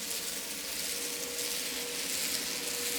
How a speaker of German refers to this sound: Eine Schnellfähre nähert sich.